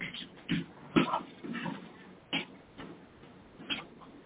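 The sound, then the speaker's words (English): A dog in Boston gives several short, sharp barks spaced a second or so apart, with softer whimpering noises in between, during thunder and lightning, all fairly quiet, with no talking. “The dogs in Boston were crazy.”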